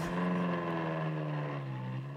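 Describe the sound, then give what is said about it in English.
An old-timey car engine being cranked up runs loudly, a steady buzzing drone that revs briefly and then sags slightly in pitch, with no voices. “Please get in this car that goes... Yes! Aruga! When you beat the horn. Oh, my God. Shit. Crank it up.”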